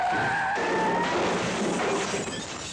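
Car tires screech in a loud, sustained skid, the squeal sliding in pitch before dissolving into a rough, noisy clatter of a minor collision with only slight sheet-metal damage, after a passenger grabbed the driver's steering wheel. No one speaks.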